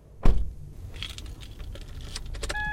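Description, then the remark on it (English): A thump like a car door shutting, followed by keys jangling and light rustling inside a vehicle, ending with a brief electronic chime, as a young man gets into the car to drive to the nearest polling location, a 10-minute drive, to cast his first ballot. No one speaks. “All right, so I'm now in the car and we're about to head out to the nearest polling location, which is only a 10-minute drive.”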